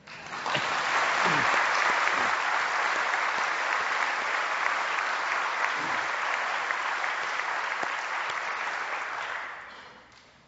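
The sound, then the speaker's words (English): An audience at the jubilee of the Episcopal parish of the Transfiguration applauds the parish steadily for about ten seconds, a dense, even wash of clapping hands that holds at full strength before tapering off at the end. “I think they deserve a clap, don't you?”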